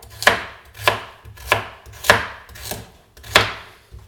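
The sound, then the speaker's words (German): A knife dices a carrot, peel left on, into small cubes on a cutting board: six firm, evenly spaced thuds with a bright clack, clear with no talking. “Auch die schneiden wir in kleine Würfel, auch hier lassen wir die Schale dran oder die Haut.”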